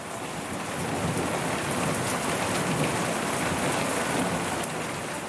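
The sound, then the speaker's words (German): Heavy rain patters steadily and densely, filling the whole scene, while low thunder rumbles and rolls underneath over a mountain valley. No voices, just the continuous downpour throughout. “Donner rollt über das Tal, Regen prasselt nieder.”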